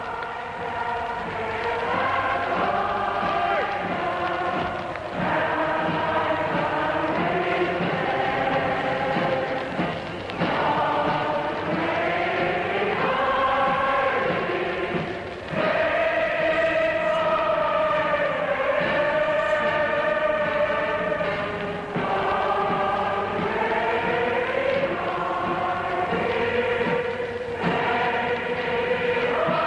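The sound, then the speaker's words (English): A large crowd in the London streets on VE Day, marking the end of the war in Europe, sings Land of Hope and Glory, a slow, stately song, while a band plays along. Mr. Churchill also sings and conducts. The massed voices and sustained melodic notes stay loud and continuous throughout. “And now listen, the band is playing Land of Hope and Glory, and the crowd is singing.”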